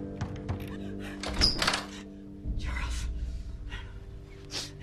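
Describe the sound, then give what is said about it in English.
Someone bangs on a locked door, demanding it be opened, with a run of heavy, dull thumps in the first two seconds, followed by rough, breathy noise and a few sharp gasps. “Damn it, open this door!”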